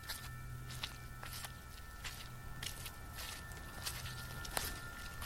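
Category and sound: human body sound, footsteps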